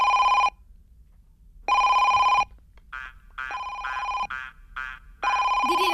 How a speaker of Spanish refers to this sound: A ver, ¿esto qué es? ¿El politono del teléfono?